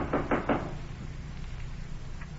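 Three quick, firm knocks on a wooden door, evenly spaced at the start, followed by a quiet room with faint low hum and no voices.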